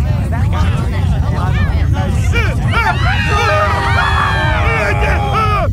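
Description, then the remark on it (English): A dense, overlapping babble of many voices talking at once, loud and continuous, with rising and falling speech tones layered thickly into an unbroken wall of chatter: the self-important blathering of 58 billion podcasters, unleashed by Klaxon as the Earth starts to vibrate. “Hear the self-important blathering of 58 billion podcasters and die!”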